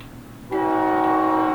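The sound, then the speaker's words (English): A loud train horn right outside a window blasts suddenly and holds one steady, chord-like note, rising abruptly out of low background rumble with no one speaking. “It's like it's right outside the fucking window.”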